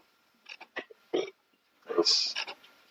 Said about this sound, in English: I burped.